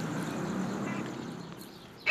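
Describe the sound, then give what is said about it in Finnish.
Steady outdoor background noise in a yard with faint, scattered bird calls, then a sudden loud, harsh call from one of a pair of gulls looking for food bursts in right at the end. “Pari lokkia tuossa ihmettelee, että mistä löytäisi jotakin syötävää.”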